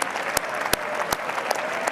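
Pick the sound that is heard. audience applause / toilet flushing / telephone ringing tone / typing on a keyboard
audience applause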